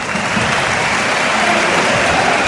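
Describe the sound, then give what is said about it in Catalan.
A stadium crowd of Espanyol supporters applauds steadily each time the player Cabrera touches the ball, a dense, broad wash of clapping holding at an even level with no voices standing out. “Aplaudiments cada cop que toca la pilota, de fet ara mateix.”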